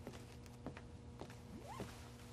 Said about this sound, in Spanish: El mediador se guarda su carpeta bajo el brazo y se sube la cremallera de la cazadora.